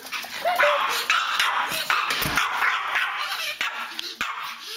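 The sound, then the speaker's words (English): A small dog, a Pomeranian named Boo, yips and whimpers in a steady run of high, squeaky cries and short sharp yelps, with a faint hiss of background noise. “She said, take, for instance, Boo the Pomeranian.”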